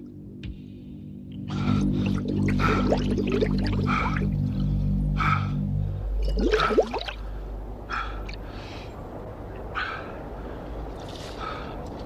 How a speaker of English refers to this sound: Noddy heaves the bike over the side of the bridge and it plunges into the river below.